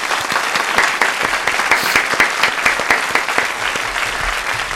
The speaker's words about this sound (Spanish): Un aplauso, por favor, para Alfonso.